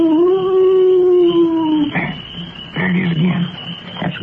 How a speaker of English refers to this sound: Wait a minute. I know what that was. That was an owl. An owl? Oh, that's sure. Getting scared of a little old owl.